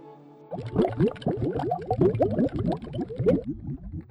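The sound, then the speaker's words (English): Dense, rapid bubbling and gurgling, like air bubbles rising through water, starting abruptly after a brief hum and continuing in a busy, bright stream of pops and blips; bubble sound effects played from a phone into Pro Tools. “I literally just found like some bubble sounds and I had my phone plugged up to the Pro Tools and I would just play these bubble sounds”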